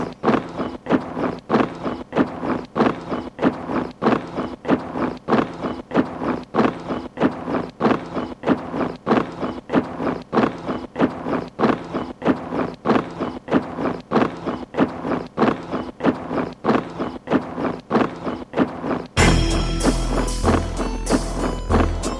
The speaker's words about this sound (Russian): Ты слышишь этот топот? Это рэпа-армия, это Донбасс.